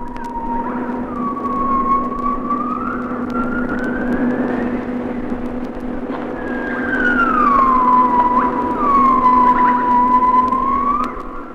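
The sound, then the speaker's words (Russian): A gibbon calls in long, wailing whoops that slide up and fall back down in pitch, several drawn-out tones repeating over a steady low hum, with no talking. “Крик гиббона.”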